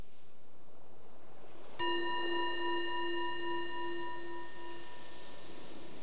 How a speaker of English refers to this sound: So the bell is the invitation to let go of whatever was happening in your life before this, and just being present right here, right now.